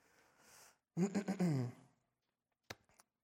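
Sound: throat clearing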